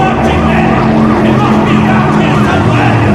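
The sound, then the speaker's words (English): A police boat's engine roars loudly, a steady, throbbing motor drone that stays intense throughout as the craft races past. “They've dodged police boats.”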